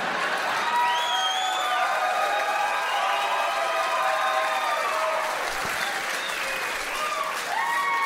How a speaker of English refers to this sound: Thanks for applauding my mother's mutilated vagina.